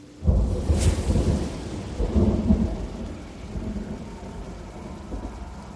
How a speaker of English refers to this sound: As I look outside, the skies are cloudy, but I hope the weather holds up for a drive later. It's a bad night for rain.